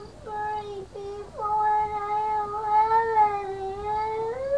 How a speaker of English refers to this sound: Well, wait a second, don't cry.